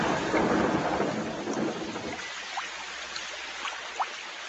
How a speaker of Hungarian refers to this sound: Kim esik az eső. És nekem nincs esernyő.